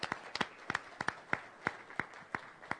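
Sparse, fairly quiet clapping from members of an assembly, a few hands striking in a loose, steady rhythm rather than a full roaring applause.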